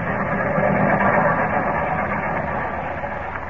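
A train, the 941, pulls into a station on track 6 with a loud, steady rumble and hiss of machinery that holds constant for a few seconds before easing slightly toward the end.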